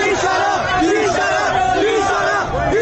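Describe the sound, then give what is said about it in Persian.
A large crowd of protesting bazaar merchants chants loudly in unison, voices rising and falling in a repeated rhythmic slogan about every second, over a dense, continuous roar of many voices. “گزارش هایی از شلیک گلوله های ساچمه‌ای و رنگی به کسبه معترض منتشر شده و تصاویری از واکنش کسبه به رفتار نیروی انتظامی.”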